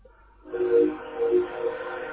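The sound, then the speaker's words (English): A train goes by on a railroad track, its sound rising abruptly into a loud, steady droning with tonal, horn-like overtones that holds for a couple of seconds. No one speaks. “Oops, sorry, I'm by a railroad track.”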